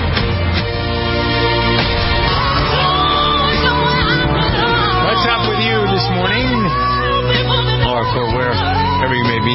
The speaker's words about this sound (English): This is the … program with a slice from The Voice last night. More yelling and screaming. Oh, my God. Listen to this.